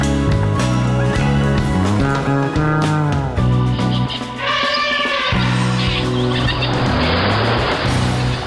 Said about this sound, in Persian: بر اساس این تحقیق، سر و صداها و آلودگی صوتی مرتبط با ترافیک و رفت و آمد اتومبیل‌ها در افزایش فشار خون انسان‌ها نقش دارد.